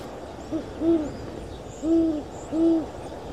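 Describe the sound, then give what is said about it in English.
A snowy owl hoots low and clear in minus 38 degree cold as nightfall approaches: a brief soft note, then three longer, resonant hoots spaced about a second apart over a faint steady background hiss, with no voices. “But I do like coming up here, because you get a chance to see the snow owl.”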